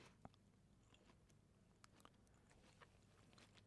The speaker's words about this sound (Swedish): Ta en liten tugga här bara. Smaka på den här lilla med bruna smöret. Nu äter hon med fingrarna.